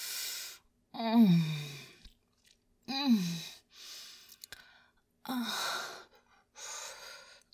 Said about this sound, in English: God, these sounds you're making, whimpering while you're gagged with my panties.